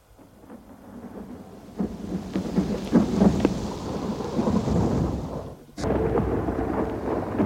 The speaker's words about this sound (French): Un jour, nous avons été pris par l'orage.